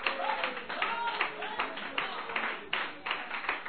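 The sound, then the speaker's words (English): A crowd claps hands in praise during a church worship service, a dense, uneven patter of sharp slaps that holds steady for a few seconds, with faint voices calling out underneath. “Freedom to clap your hands.”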